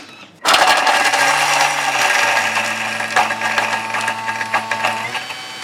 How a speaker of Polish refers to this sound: Wrzucamy wszystko do blendera. Ciecierzycę. No i teraz będzie chwila hałasu.